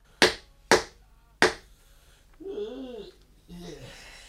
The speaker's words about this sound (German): Wer klopft?